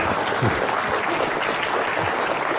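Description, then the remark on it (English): An audience claps steadily for a few seconds for speakers being introduced, a dense, even patter of many hands at a fairly loud level, with no talking over it. “you're allowed to clap for them.”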